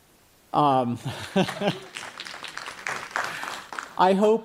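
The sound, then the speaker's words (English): An audience claps in a brief, steady burst of applause, a dense patter of hands running beneath a man's voice that speaks before, during and after it. “I hope you're not clapping because I haven't succeeded.”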